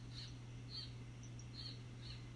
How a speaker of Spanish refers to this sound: Por ejemplo, escuchemos esa ave que está por ahí. Todas las aves siempre vienen a dar un mensaje.